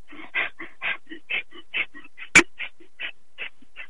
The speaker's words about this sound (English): And your breath in and out should be equal in duration, but as short as possible. So this is a noisy breathing exercise, so you probably need to go to the restroom, but let me give you a demonstration.